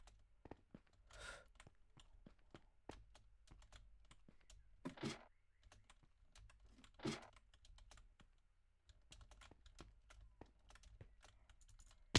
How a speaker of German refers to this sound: Digga, ich drück sogar die Leertaste! Drück doch sogar Leertaste. Tastatur ist halt einfach todescheiße, Digga.